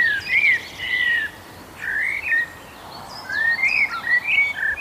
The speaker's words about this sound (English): I love the blackbird for its song. The blackbird has a reassuring and a very lyrical song. I also find it quite a homely sound. It kind of says, all is normal here, and it's a lovely day. It reminds me of sunshine and spring days warming up.